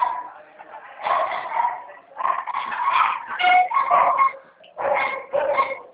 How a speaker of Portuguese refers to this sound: Não, desculpa, tá meus cachorros latindo aqui